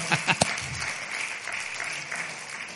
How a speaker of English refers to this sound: There was a little clapping. It wasn't real loud. No, como que no aplaudieron con muchas ganas.